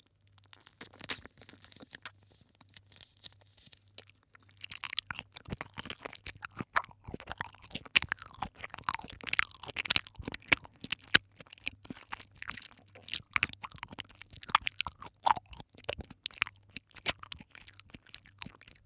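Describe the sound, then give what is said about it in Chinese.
Steady chewing of Crayon Shin-chan jelly: a dense run of wet, squishy smacks and clicks starting after a few quiet seconds and continuing irregularly to the end, with no talking. “这个果冻真的无敌好吃，蜡笔小新的。”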